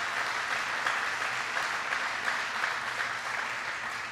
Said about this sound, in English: Please give her a big round of applause.